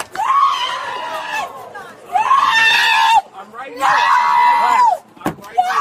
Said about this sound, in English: They are simply seating her in the back of the police car while she's doing all that screaming.